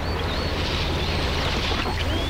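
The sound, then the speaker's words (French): Water gurgles and bubbles as a car sinks into a swamp in Alfred Hitchcock's film Psycho, a steady, unbroken wash with a low churning undertone, while faint high chirps from birds or insects thread through now and then. No voices. “Le glou de l'eau est le seul son que l'on entend.”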